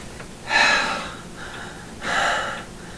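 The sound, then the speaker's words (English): A voice imitates heavy breathing: two loud, drawn-out breathy inhales, each followed by a softer exhale, with no words spoken. “Oh yeah, heavy breathing, baby.”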